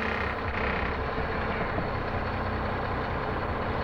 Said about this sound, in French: Tu vois, quand je roule comme ça, je roule pendant des heures, il n'y a rien. Là, il y a les poteaux, puis il y a le bruit du moteur, c'est tout.